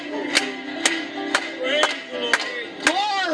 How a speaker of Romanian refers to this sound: Aplaudați-o lui!